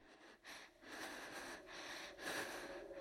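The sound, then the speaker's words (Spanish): Slow, raspy breathing to the listener's left in a basement, several airy inhales and exhales in an uneven rhythm, hoarse and unsettling, with no talking. “Primero, me sentí como un idiota por haber caído, pero esto, al igual que el dolor de mis heridas, desapareció en cuanto escuché algo que solo puedo describir como una respiración a mi izquierda.”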